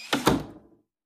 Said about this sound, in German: Mach die Tür doch mal ganz auf, dass wir reingucken können.